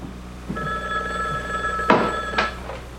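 A black telephone on a little table with a lamp, by a red chair against the wall, rings with a steady, bright trill for about two seconds, then cuts off amid a couple of sharp clunks, as if the handset is picked up.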